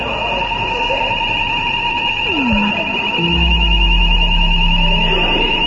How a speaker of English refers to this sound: The alarm stopped ringing.